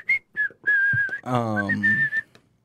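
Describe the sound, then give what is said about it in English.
A person whistles a short tune, several clear sustained notes with a brief hummed, voiced stretch in the middle before the whistling resumes and fades out. “Sorry, I whistled.”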